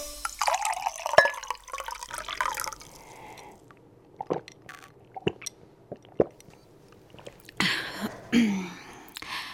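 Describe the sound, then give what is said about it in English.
Cool water pours and splashes into a copper mug in hot weather, followed by soft swallowing and clinks of the mug against a hard surface, with no talking. “In this hot weather, drinking a glass of cool water really hit the spot, especially when you drink it in a copper mug.”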